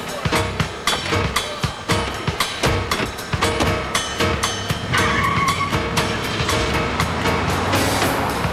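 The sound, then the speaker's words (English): An unmarked police car roars off, its engine loud and continuous, with tires squealing and skidding partway through as it speeds away. “George and Clayton get into the car and drive away.”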